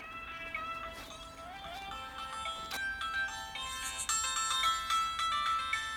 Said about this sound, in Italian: Scusami che mi suona il telefono. Un attimo.